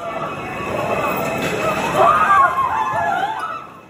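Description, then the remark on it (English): Camera-phone recording of panicked crowd noise from people fleeing a smoke-filled subway train at a station in Brooklyn, New York City, after a shooting: a dense wash of overlapping voices and shouts, with sharper high-pitched cries rising midway before the commotion fades at the end. “That is sound captured on a camera phone of people fleeing a smoke-filled train at a station where investigators say they also found a gun, fireworks, and fuses.”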